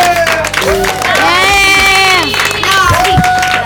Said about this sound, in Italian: Hanno lavorato come dei veri DJ e si sono proprio comportati da veri uomini di radio. Facciamoci un applauso, siete stati bravissimi.